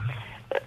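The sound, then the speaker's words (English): A single short telephone dialing beep, a crisp two-tone blip near the end, preceded by a low, steady hum. No voices are present. “So here's our phone call to Pauline.”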